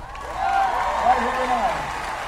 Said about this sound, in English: President Barack Obama hops onto the podium to deafening cheers about 45 minutes before the crowd expects him.